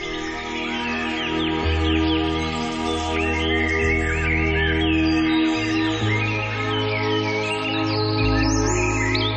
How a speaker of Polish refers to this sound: To właśnie wiosenne ptaki, bo już tak u nas w nocy słychać, tu bardzo blisko.